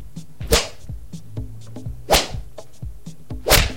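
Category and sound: sound effect, whip lashing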